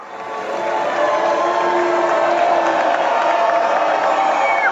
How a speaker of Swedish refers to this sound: Donald Trump och hans fru Melania möttes av både burop och applåder när de gjorde entré i salongen på Kennedy Center. Flera i publiken visslade och gjorde tummen ner mot presidentparet, men buropen överröstade sen av jubel